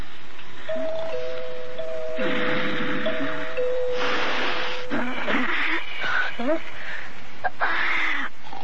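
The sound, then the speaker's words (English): A doorbell rings in sustained, steady tones that shift slightly in pitch over several seconds, accompanied by bursts of breathy, rustling noise and muffled vocal sounds. “So I heard a bell ringing.”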